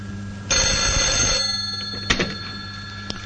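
A bright, metallic telephone bell rings loudly for about a second, then cuts off, followed by a few soft clicks and a short rattle as the receiver seems to be handled. The ringing wakes a man asleep with his head on a desk in a room of packed files.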